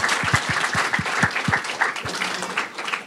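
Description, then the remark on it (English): Sustained audience applause, a steady wash of many hands clapping at a fairly even loudness for about three seconds, with a few sharper individual claps standing out early on. “Let's give them another round of applause before we hear about the judging.”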